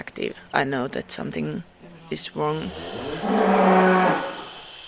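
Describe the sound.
A person talks briefly, then a dairy cow lets out one long, low, drawn-out moo, loud, in a barn on a dairy farm where about thirty dairy cows are milked one after another in a mechanized milking room.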